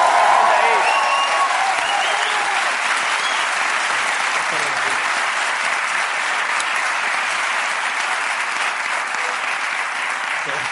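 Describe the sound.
Sustained audience applause for the show's presenters, a dense wash of many hands clapping at steady volume for about ten seconds, with a faint voice briefly audible at the start.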